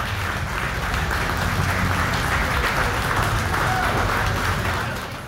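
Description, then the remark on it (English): Sustained applause from a large audience for the contestants at the 2022 Illinois State Auctioneer championship, a dense, steady wash of many hands clapping at once for about five seconds, then beginning to fade at the end. “Let's give all our contestants a big round of applause, ladies and gentlemen.”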